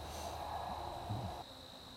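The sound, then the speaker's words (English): A soft, continuous drone of buzzing bees hums steadily throughout as a beekeeper moves combs into a box, fairly faint and even, with no voices and no clear breaks in the sound. “I also like to get some of my painted bees so I don't lose them.”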